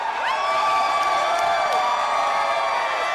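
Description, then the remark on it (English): A crowd of marijuana legalization supporters in a bar in downtown Denver, Colorado cheers loudly and continuously as election results come in, many voices overlapping with shouts and rising whoops, a dense roar that holds steady from start to finish. “Everyone cheered as the results came in.”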